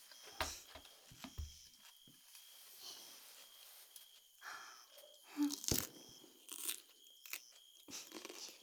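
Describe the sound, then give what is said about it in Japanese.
Crunchy food being bitten and chewed, with a sharp snap from a big first bite followed by irregular crisp crunches and softer chewing noises spread over several seconds, no talking. “なんか食事の音ってお腹空きますよね。”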